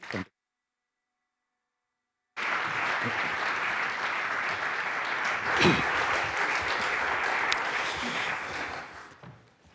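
After a brief silence, an audience breaks into sustained, steady applause, many hands clapping at a fairly loud, even level for several seconds before it fades out.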